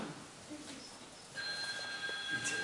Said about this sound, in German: So, jetzt haben wir hier eine Prüfung, nämlich das Telefon klingelt.